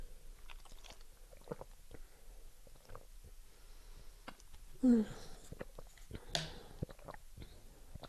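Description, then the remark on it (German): A water bottle being handled: scattered soft clicks and taps, a brief squeaky rubbing tone in the middle, then a short hissing scrape, all fairly quiet, with no talking. “das Geräusch des der Wasserflasche.”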